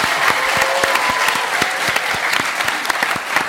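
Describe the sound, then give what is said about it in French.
A studio audience at Studio 105 in Paris, including high school students from lycées in Nanterre, Poissy, Bagnolet, Aubervilliers and Paris, claps steadily, a dense wash of many hands with sharp individual claps popping out, sustained and fairly loud throughout with no voices on top. “Vous pouvez vous applaudir avec les lycéens des lycées Joliot-Curie à Nanterre.”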